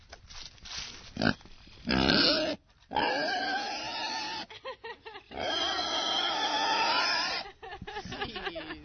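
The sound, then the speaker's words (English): An excited pig, happy to see people coming over, grunts and squeals in loud bursts, with long shrill squeals broken by short grunting pauses, a small goat right next to it, and no one speaking. “So obviously we're hearing a very excited pig who's very happy to see us coming over, and there's a little goat right next to the pig.”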